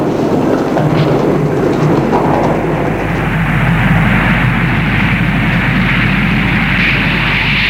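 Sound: airplane in flight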